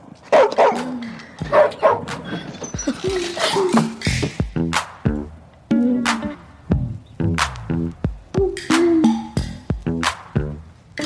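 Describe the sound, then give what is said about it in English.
A dog barks repeatedly and loudly, sharp overlapping barks with short yips in a rapid, excited series that fills the whole stretch. “This is my dog, Ferocious. You know why he got that name if you hear him bark.”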